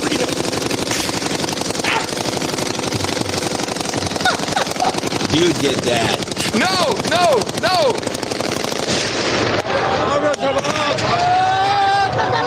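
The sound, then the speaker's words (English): Sustained bursts of celebratory machine gun fire crackle continuously over a loud, dense crowd, with shouting voices and chanting mixed in throughout; the word heard over and over is the Arabic 'Hurriya'. “You left it on that long, 10 seconds of machine gun fire?”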